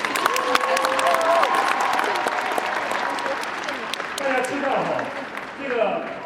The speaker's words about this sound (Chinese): 我们真的要给他们再一个热烈的掌声，表示感谢。